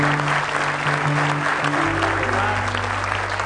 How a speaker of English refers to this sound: Somebody say praise the Lord. Give Him a big hand clap of praise if you love Him.